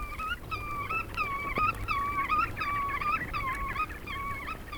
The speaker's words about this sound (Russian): где-то около реки летает кулик-веретенник. За песню его и зовут веретенником.